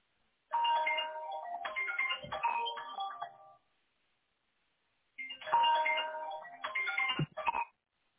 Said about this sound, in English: If you need to answer that, I don't mind holding. No. That's fine. That's my son's phone.